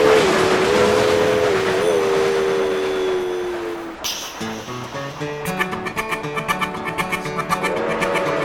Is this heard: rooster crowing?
no